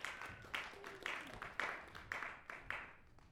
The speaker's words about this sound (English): So let's have a round of applause for all these great musicians.